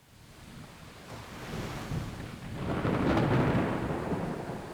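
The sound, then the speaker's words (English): Low thunder rumbles and swells, building steadily louder over a few seconds with a hiss of wind or surf beneath it. No one speaks. “Did I just hear thunder?”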